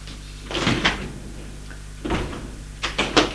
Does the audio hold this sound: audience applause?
no